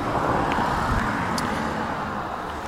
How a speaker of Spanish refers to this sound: Estoy a la orilla de una carretera federal. Se oyen allá atrás de mí los ruidos de los carros que pasan.